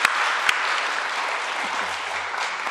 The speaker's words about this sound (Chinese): 我们教会成立了1周年。 所以个个都是1岁。 所以每个人都1岁了。 所以我们应该彼此鼓掌来到恭贺。 彼此鼓掌来恭贺吧。